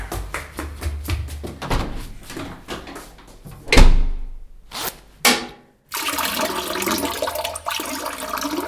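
household object, toilet flushing

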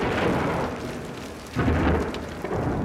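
nature, thunderstorm thunder

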